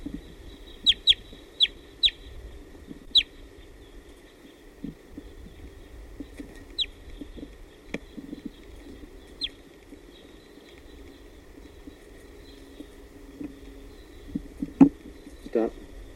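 wild birds calling

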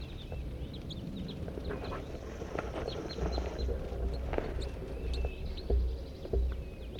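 flock of crossbills calling

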